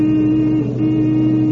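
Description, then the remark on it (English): A car engine roars loud at a high, steady pitch, a sustained revving drone with no voices over it, as the car is pushed hard down a long mountain downgrade. “They can eat my exhaust.”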